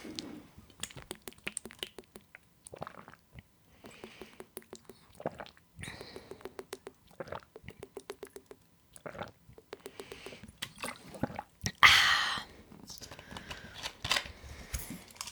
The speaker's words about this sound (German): So, wir trinken alle nochmal. Nochmal 5 Schlücke.